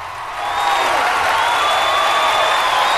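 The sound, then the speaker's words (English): A large standing audience claps and cheers loudly and continuously, with high whistles and whoops rising above a dense wash of applause that swells in during the first half-second, as a new group of young contestants walks onto a stage showered with silver confetti. “The audience are standing, cheering enthusiastically.”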